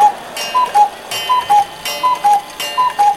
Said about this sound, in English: Anywho, my swishy swizz cuckoo clock is telling me that it's time to begin.